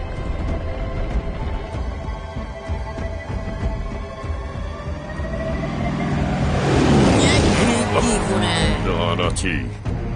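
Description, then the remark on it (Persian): A car engine rumbles steadily, then cranks and revs up loudly partway through as someone with bound hands tries to start it, roaring before settling, with indistinct voices mixed into the noise. “تو فقط ماشین رو استارت بزن، من فکر میکنم بتونم از پسشون بر بیام.”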